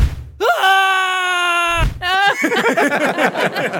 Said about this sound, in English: Yeah, it's a clip on you guys on like an old Ferris wheel, and as soon as it starts to get to the top, everyone starts screaming.